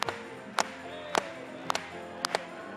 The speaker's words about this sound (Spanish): Vamos a aplaudirle una vez más. Aplaudámosle a él.